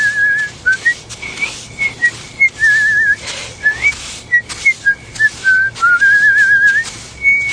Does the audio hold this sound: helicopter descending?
no